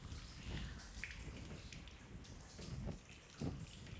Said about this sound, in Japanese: こうしてシャワーしながら、